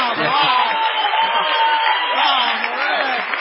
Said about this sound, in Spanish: A otra, al otro lado se encuentra el artista antes llamado Gillespie, y la ovación no debe ser menor.